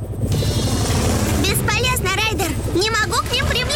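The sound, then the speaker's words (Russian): A steady helicopter rotor thrums with a low, rhythmic chopping throughout, while voices talk over the din; the helicopter, flown by Skye in the cartoon Paw Patrol, hovers near a snowy mountain cliff where its wind could trigger an avalanche. “Ветер от вертолета может вызвать лавину.”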